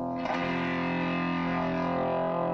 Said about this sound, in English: Distortion pedal, which overloads the signal. Overdrive the sound and make it sound pretty rude.